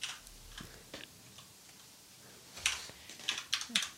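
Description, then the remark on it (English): Quiet, irregular clicking of computer keyboard keys as a man types a search, a few scattered taps early on, then a quicker burst of keystrokes near the end, with no voices. “All the listeners, he is typing on his keyboard right now.”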